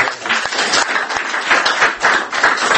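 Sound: audience round of applause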